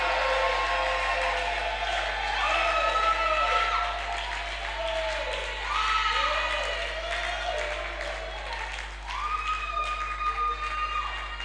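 A church audience shouting amen together at a preacher's call, a dense, sustained roar of many voices with overlapping cries rising and falling, mixed with some clapping, loud throughout the whole stretch.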